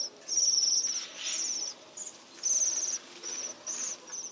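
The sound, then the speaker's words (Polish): Waxwings give high, thin, bell-like trilling calls in a rapid series of short bursts, several birds overlapping against a soft background hiss. “jemiołuszki o szaro-brązowym upierzeniu i bardzo charakterystycznym czubku”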